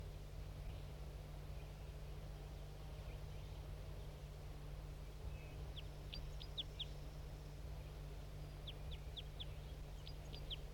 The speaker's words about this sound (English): And there's another bird more towards the top of the hill. More birds coming in. Two birds joining that male who was singing.